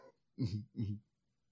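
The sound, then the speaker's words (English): A heavy female dog whimpers twice in quick succession as she is picked up, two short, low, grunting whines, with brief quiet before and after and no talking. “That dog is heavy. It was like, I just picked her up.”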